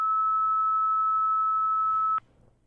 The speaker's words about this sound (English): Yeah, I don't know what's going on. That's a modem. Mm-hmm. It definitely. We don't have a modem connected, do we?